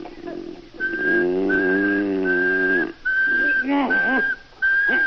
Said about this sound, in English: They say if you whistle in a monotone, maybe that'll work.